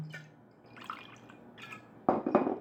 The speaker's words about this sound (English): So I got one of the vodkas from my show about Central Coast spirits, and I'm going to just pour it neat and add a garnish of etrog rind.